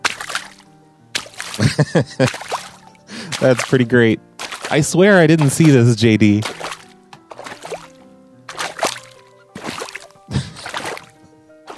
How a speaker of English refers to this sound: And then we have something here called Walking in Shallow Water.